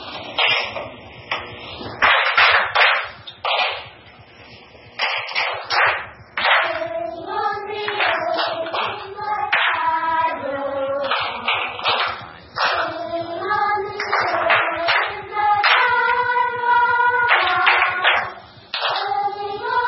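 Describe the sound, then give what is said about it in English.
Hands clap a short repeating ostinato rhythm in a music lesson, crisp and fairly loud, cycling steadily over a tonal melody that runs underneath the whole time. “So let's clap it twice, and then sing the song.”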